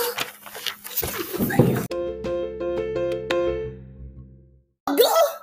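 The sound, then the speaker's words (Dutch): A doorbell-like chime rings out clearly in a short run of bright, sustained tones that fade away over a few seconds, framed by brief bursts of noisy bustle before and after. “Ding dong!”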